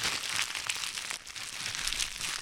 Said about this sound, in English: Crackle.